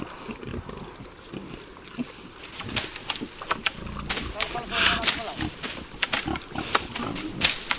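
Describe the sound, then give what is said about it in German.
Iberian pigs grunt and snuffle in an outdoor pasture among holm oaks and cork oaks near Cabaneros, roaming freely and feeding on fallen acorns, a steady run of low, rough grunts with sharper squeals and rustling breaking through, under a man's voice talking. “Das iberische Schwein ist wohl das Tier, das am besten die Weidelandschaft in der Umgebung von Cabaneros repräsentiert.”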